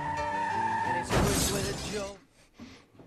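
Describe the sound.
A car smashes through a house window: a loud burst of shattering glass and crunching debris lasting about a second, after a steady tonal hum with voices, then quieter rattling afterward.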